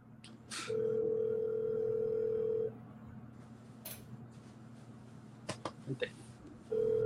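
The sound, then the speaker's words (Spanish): A steady telephone dial tone hums for about two seconds, followed by a few quick short beeps of dialing keys, then the tone returns at the end, with faint background murmuring. “Yo creo que era el teléfono de él.”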